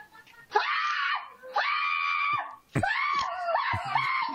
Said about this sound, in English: Instead of going, oh, you scared me, she starts going bananas. Well, she lets off a scream like she's being stabbed in the sauna.